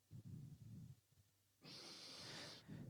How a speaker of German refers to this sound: Das heisst, ihr müsst euch vorstellen, um die 60 geht in seine GL und sagt, ich würde heute gerne das Meeting anfangen mit 3-mal schnaufen.